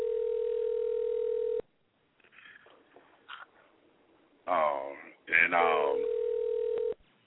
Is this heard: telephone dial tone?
yes